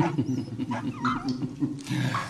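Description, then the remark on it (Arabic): A low, rumbling growl from Kamiterio, a dog, inside a cave, rolls on steadily for a couple of seconds, fairly loud, with a pulsing throaty texture and no voices around it. “إنه كلب وفي.”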